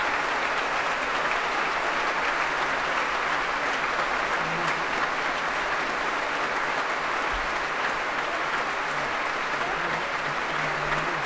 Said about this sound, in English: An opportunity for all of them to shine in that work. And they're being warmly applauded by Donald Runicles for their proms debut, all 16 of them.